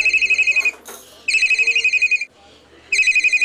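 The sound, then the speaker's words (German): A whistled imitation of a telephone ring: rapid, warbling high-pitched trills in three loud bursts separated by short pauses, with a brief breathy noise after the first burst. “Weißt du, dass ich wie ein Telefon-Chief pfeifen kann?”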